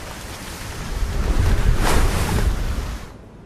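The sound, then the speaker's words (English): Ocean surf swells and crashes against rocks where penguins stand, a broad roaring wash that builds to a peak and then recedes, with gusty wind noise underneath and no voices. “More of the penguins standing on rocks overlooking the surf.”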